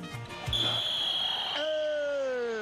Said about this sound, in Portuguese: Está valendo! Apito juiz e tá valendo